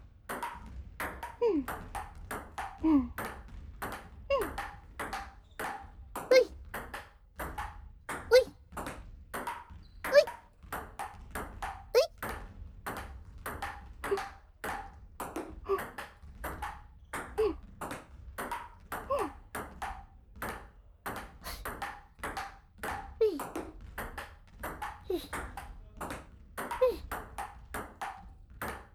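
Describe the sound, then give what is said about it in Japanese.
A ping pong ball clicks sharply off paddle and table in a fast, steady back-and-forth rally that runs the whole time, with faint voices now and then in between the hits. “音だね。ピンポンピンポン。”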